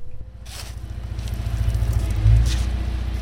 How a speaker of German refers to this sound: Im Moment regiert aber auf dem Bürgerstock noch der Krach der Baumaschine.